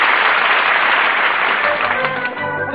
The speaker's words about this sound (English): listen to that band and that crowd cheering. What is it? It's a parade headed by Park Your Carcass, and here he is!